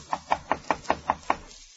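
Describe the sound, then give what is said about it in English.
Seven quick, evenly spaced, fairly loud knocks on an upstairs wooden door at the Spyglass Inn on the coast of England, in a steady rhythm with no voices, then silence. “Jim enters the inn, and inquiring for Silver, is ushered upstairs and told to knock on the door.”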